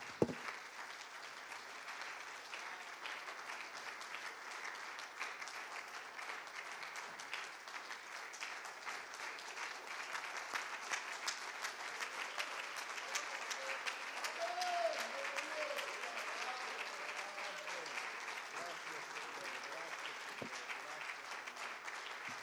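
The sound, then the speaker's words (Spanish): A church audience claps for the Lord steadily for over twenty seconds, a dense, sustained wash of applause with faint voices murmuring and calling out underneath. “Y la iglesia, el Señor dice: dele palmas al Rey.”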